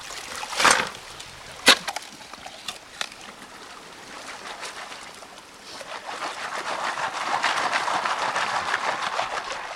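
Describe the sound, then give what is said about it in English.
A couple of sharp scraping crunches as a shovel digs into wet soil at a river bend in Plymouth State Park, about a mile downstream from the old Rooks Mine, to pan for gold. Fairly loud, then a steady rush of flowing water builds up around them. No one speaks. “He picks a river bend where the water would have likely deposited some of the heavy metal and starts digging.”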